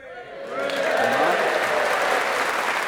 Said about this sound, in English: So that's right, you applaud their contribution.